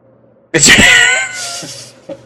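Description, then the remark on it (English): A hungry female cat lets out one loud, drawn-out meow, its pitch bending as it cries, then trails off into a softer hiss-like tail and a faint knock. “Yeah, your pussy's hungry.”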